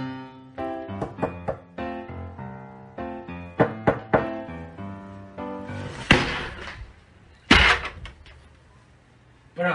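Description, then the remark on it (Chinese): Several sharp knocks land on a door, a few spaced raps standing out against a tonal background with some voice-like sound mixed in. “敲门你又不开。”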